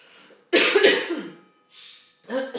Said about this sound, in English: Horrible tickly cough.